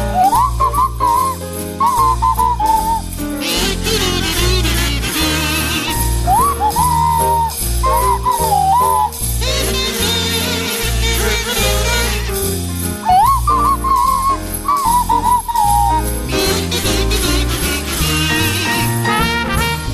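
A sliding swanee whistle carries a jaunty Christmas tune, with swooping glides up to each phrase, over a buzzing ensemble of kazoos played by the cast and a steady bouncing accompaniment, loud and continuous throughout.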